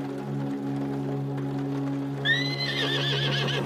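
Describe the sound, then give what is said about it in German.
At night, a horse with a wet mane and wide nostrils gives a strong whinny, its voice rising high and then trembling in a wavering neigh over a steady low drone. No one speaks. “Mit nasser Mähne und weiten Nüstern begrüßen uns unsere Reisegefährten mit einem kräftigen Wiehern auf einer ganz außergewöhnlichen Tour hinaus in die Welt.”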